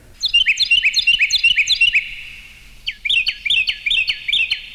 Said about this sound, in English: Carolina Wren